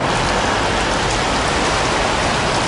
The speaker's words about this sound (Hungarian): Budán Borsó nagyságú jég esett. Olyan jégeső esett, hogy egybefüggően hófehér volt minden. Hófehér!